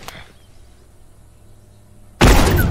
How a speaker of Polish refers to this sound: Wybuchło, wybuchło, nie?